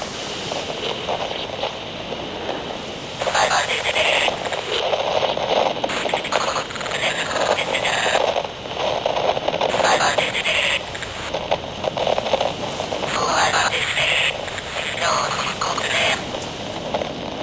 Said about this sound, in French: T'as entendu ? C'est une balise du département des Lumières, ça. Je la localise. On change de cap.